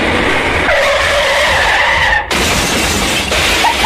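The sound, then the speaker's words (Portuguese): A BMW 305 car roars up loudly with a long, high tire squeal as it skids to a stop, followed by a brief cut and continued harsh, noisy rumbling and screeching. “Isso aí foi a última chegada do Luan aqui.”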